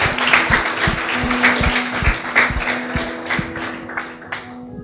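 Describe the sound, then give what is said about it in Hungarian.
Steady applause from a crowd honoring people who made the decision that day to accept salvation, a dense wash of clapping at even loudness for about five seconds, with occasional low thumps and a faint sustained low hum underneath. “Tapsoljuk meg ezeket az embereket, akik meghozták ma ezt a döntést.”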